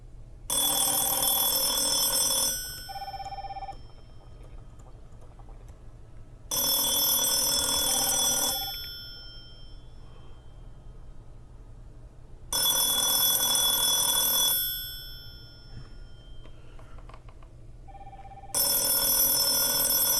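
An old-fashioned telephone bell on an old phone, connected through an ATA adapter to a PBX system, rings loudly for an incoming call in four bursts of about two seconds each, separated by even pauses of roughly four seconds, with no one talking.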